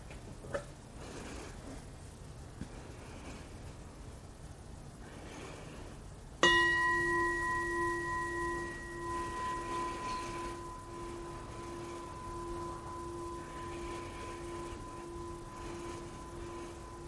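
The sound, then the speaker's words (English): A meditation bell is struck once after a quiet stretch, its clear, bright tone ringing out and slowly fading over the remaining seconds, with no one speaking. “So when I ring the bell, you might take a couple of deep breaths before opening your eyes.”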